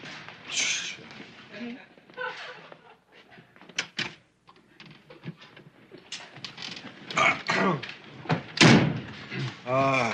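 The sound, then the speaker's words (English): A car door thuds shut, followed by a few sharp mechanical clicks as someone locks the car door, with people talking and shifting around before and after. “I think I'll lock my door, too.”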